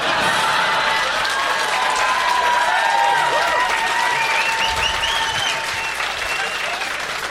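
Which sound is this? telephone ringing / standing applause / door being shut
standing applause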